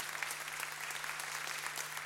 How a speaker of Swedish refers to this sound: en stor applåd för Darja